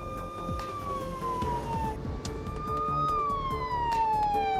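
ambulance siren

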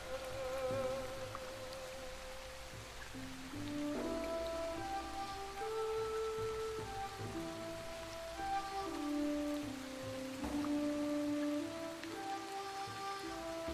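rain falling

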